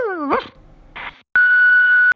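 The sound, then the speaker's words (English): A dog gives a brief whining yelp and a short bark, then a second muffled woof, followed by a steady electronic beep tone lasting under a second. “Can't wait to bark at you.”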